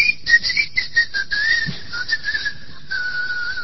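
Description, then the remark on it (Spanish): A high, steady whistle like a whistling keychain, pulsing in quick repeated chirps that slide slightly lower in pitch, then settling into one sustained tone, clear with no talking. “El llavero ese que tiene viene con un chiflido, vos lo perdés.”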